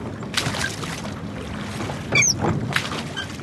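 Oars dip and splash in water at an unhurried pace, with soft sloshing between strokes, and a bird chirps briefly overhead. No one speaks. A rowboat is rowed out into the middle of the Delaware River at Lambertville, New Jersey, dragging a shad-fishing net more than 100 yards long.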